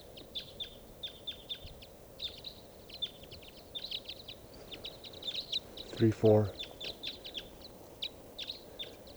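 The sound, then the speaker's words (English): A flock of type 5 birds calling, with many short, high chirps overlapping in a busy, steady scatter throughout; a man briefly speaks a couple of words partway through. “I think there's a type 5 bird here.”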